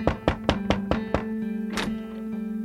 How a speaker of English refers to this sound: They knocked on Dawes's front door.